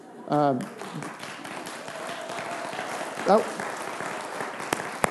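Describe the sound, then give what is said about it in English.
A crowd claps steadily for about five seconds in a dense, even patter. A couple of short voiced cheers rise above it, and one or two sharper claps stand out near the end. “Maybe it's me and how I lead up to, I don't know, but it's like, I don't know how we clap so poorly, but that second one was far better.”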